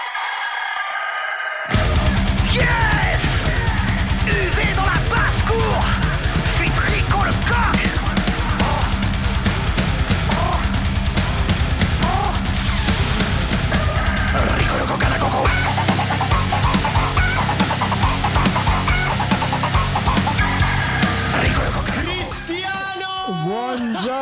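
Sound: rooster crowing imitation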